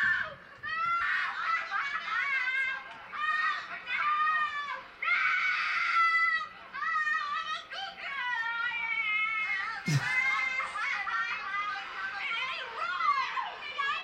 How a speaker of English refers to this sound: Yeah, because she's always screaming like, ah! Constant, never-ending screeching in this movie.